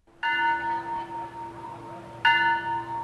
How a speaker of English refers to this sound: Bells toll at Wat Yan Yao, the Buddhist temple that was once filled with thousands of bodies from last December's disaster.